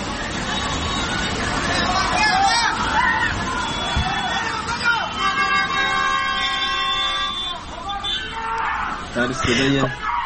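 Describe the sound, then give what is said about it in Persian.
A crowd of people at the Quran Gate in Shiraz shout and scream in panic as floodwater first enters the city. Their high, wavering cries overlap continuously above a steady rushing roar that sounds like floodwater. “صدای هراس مردم رو، در واقع فریادهای هراسناک مردم رو میتونیم بشنویم.”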